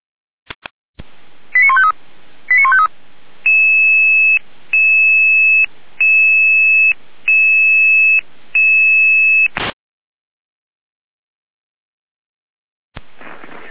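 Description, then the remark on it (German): A radio pager alerting sequence from an emergency dispatch center alerting rescue units: a few quick electronic tone bursts followed by a steady run of six long, evenly spaced beeps, loud and band-limited like a radio transmission, with no talking. “Ihr Name zur Alarmierung.”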